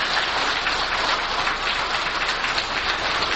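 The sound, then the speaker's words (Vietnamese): A large audience at a Buddhist gathering claps continuously, a dense, steady wash of applause that stays loud and even throughout, with no voices heard over it. “Quý vị cho một tràng pháo tay để chúng ta cùng hồi ngộ với nhau.”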